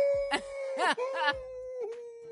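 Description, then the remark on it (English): A person imitates a wolf howl, holding a long sustained vocal tone broken by a few breathy, rising bursts, fairly loud with no other sounds. “That's my sound of a wolf.”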